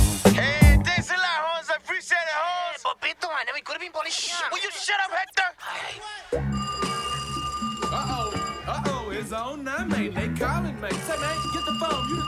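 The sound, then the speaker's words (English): A telephone rings with steady, high-pitched tones that start partway through and continue to the end, sounding over a busy mix of voices and music. “They calling, mate. Say, man, get the phone.”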